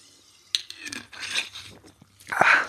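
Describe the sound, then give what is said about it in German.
A sharp click, then a hissing fizz of Gerold Steiner sparkling mineral water from the Eifel region being poured, followed by a short slurping sip and a final burst of fizz, with no talking. “Es ist ein kleines spritziger Duft aus der Eifelregion. Eine Schluck Gerold Steiner.”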